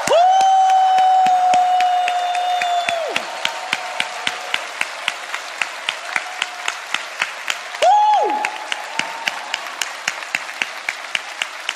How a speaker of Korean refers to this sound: 자, 지금 박수로 격려를 할 건데요. 박수만 치지 말고 여러분이 하실 수 있는 최선을 다해서 함성과 괴성과 큰 박수로 격려해 주시면 감사하겠습니다.